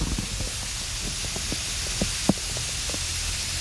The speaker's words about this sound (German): Das tröpfelt ganz schön. Von oben kommen die einzelnen Tropfen runter durch das Gebälk und das ist verkleidet mit Schwarzdorn, mit Weißdorn, also Schlehen. Und ich will mal versuchen, ob wir das einfangen können, wie sich das anhört.